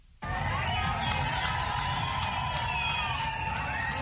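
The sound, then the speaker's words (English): A large crowd of Zimbabweans in Harare claps and cheers continuously as President Emmerson Mnangagwa accepts grain and fertilizer donated by Russia, a dense wash of applause and overlapping voices starting abruptly and holding steady and loud throughout, with no distinct speech. “Zimbabweans clapped and cheered Wednesday as President Emmerson Mnangagwa accepted 25,000 tons of grain and 23,000 tons of fertilizer donated by Russia.”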